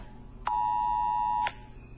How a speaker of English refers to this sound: So apparently, in addition to my phone being blanked, having a blank screen if I don't hit the OK button, it will keep sending the alert. So I just got another alert.